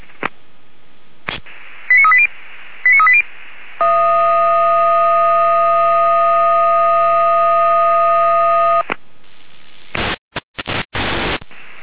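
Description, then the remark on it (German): Radio alerting tones for the Freiwillige Feuerwehr Osmannstedt (volunteer fire brigade) over a hissing channel: two short beep pairs, then a loud steady tone for about five seconds, ending in choppy bursts of static. “Palmerland mit Alarmierung.”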